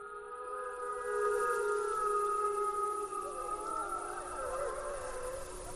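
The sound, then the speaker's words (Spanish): Several wolves circling a person howl together in a sustained chorus, long overlapping tones rising and wavering for about six seconds, fairly loud and clear over a faint background hiss, with no talking. “en vez de salir corriendo, aullan, te rodean, aullan, y cuando acaban de aullar se marchan tan tranquilos”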